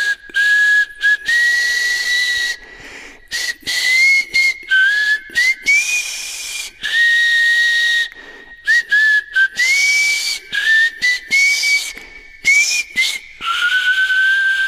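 Someone whistles a Christmas tune alone, a bright, clear melody in short flowing phrases with brief pauses between them, fairly loud, with a faint airy hiss around the notes.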